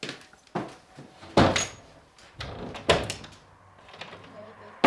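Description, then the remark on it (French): A door is pushed shut with a few knocking thumps and a solid closing bang amid faint room noise, with no talking. “Je ferme la porte parce que.”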